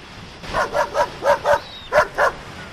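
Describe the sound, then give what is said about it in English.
Two dogs, Floyd and Pixel, barking on a beach on a winter's day, a quick series of about seven sharp, yappy barks, a run of five, a short pause, then two more, fairly clear with no one talking. “And it is a beautiful winter's day for a walk on the beach with my dogs, Floyd and Pixel.”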